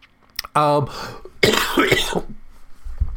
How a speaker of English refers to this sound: And then, this cough is getting to me. What the hell?